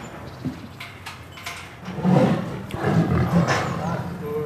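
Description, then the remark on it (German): A tigress being let into her outdoor enclosure gives a deep, rumbling roar that swells after a quiet start and holds for a couple of seconds, fairly loud, with a faint wooden knock early on. “Also die Tigerin scheint etwas ungehalten zu sein.”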